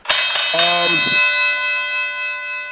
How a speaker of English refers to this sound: The bell is back, you know what I mean? After his little vacation, hiatus, kidnapping, whatever you want to call it, the bell's back in the building.